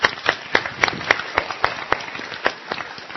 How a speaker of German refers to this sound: Ich hätte jetzt Lust noch länger, aber die Kinder sind da und sie sind sehr nett und ruhig. Hätte ich nicht gedacht, dass ihr so lange irgendwie so langweilige Dinge zuhört. Sie haben einen Applaus verdient.